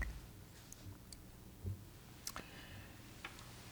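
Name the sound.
clock ticking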